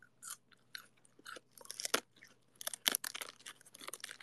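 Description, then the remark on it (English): Crisp crunching as someone chews cold lettuce from a head of lettuce taken from the fridge, with rapid wet bites and crackles in an irregular rhythm over about four seconds, no talking. “I'm eating lettuce.”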